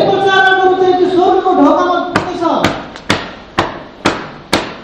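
A sustained tonal hum fades out, then six sharp, loud knocks on a door follow in a steady, evenly spaced rhythm, each a crisp percussive rap.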